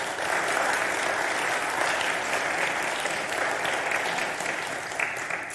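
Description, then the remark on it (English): Steady, sustained applause from a large church audience at GPC welcoming new member families, a dense wash of clapping that holds at an even loudness for several seconds without any talking. “So let's give them a round of applause.”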